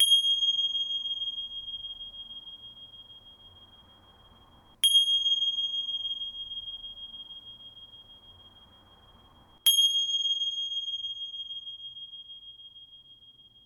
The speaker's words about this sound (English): And allowing yourself to be just as you are for one final moment before hearing the sounds of the bells that signify the end of this practice.